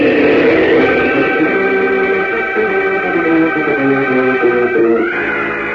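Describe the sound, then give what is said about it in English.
A loud, sustained rushing whoosh of Superman's flying takeoff up into the evening sky, heading north, roars steadily for several seconds, swelling upward in pitch near the end, with no voices over it. “Rocketing up into the evening sky, Superman streaks away to the north, on the trail of the bandits.”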